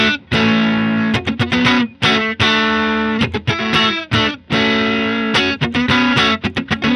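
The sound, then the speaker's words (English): Loud, distorted electric guitar plays sustained chords broken by sudden, choppy stops, each cut ending cleanly with no lingering echo or reverb tail, with the Holy Grail reverb pedal switched off for this one part of a band's song. The guitar plays alone, with no voices. “Be as dry as possible, yeah.”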